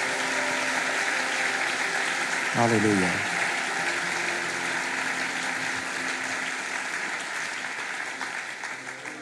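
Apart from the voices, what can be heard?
audience applause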